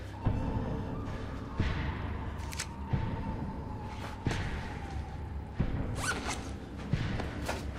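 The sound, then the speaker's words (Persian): Handling noises: fabric rustling and a few sharp clicks and jingles, like a jacket and a set of keys being passed over, with soft thuds recurring at a steady pace. “کلید و ژاکتتو رد کن بیاد.”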